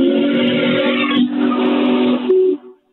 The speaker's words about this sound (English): You can hear it. Awesome. You gotta love that love whistle. It. Yeah, 132 feet long, weighs 1.5 million pounds. It's the largest only working steam locomotive in the world.